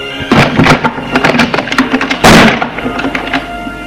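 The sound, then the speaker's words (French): The door of a grandfather's study opens at 2 a.m.: a run of sharp wooden clicks and knocks, then a louder broad thump partway through, followed by a few lighter taps over a steady low hum. “Tout à coup, la porte du bureau de son grand-père s'ouvre.”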